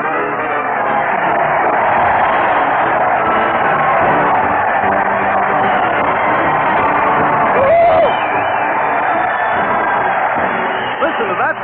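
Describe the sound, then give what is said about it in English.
A large crowd roars and cheers steadily throughout at a parade to the old town hall led by Stoopnagle and Bud, a dense wall of voices with scattered whoops and shouts, and a brief rising whistle around the middle. “There goes Stoop, Magel, and Bud leading the parade, tipping their toupees to the cheering multitude.”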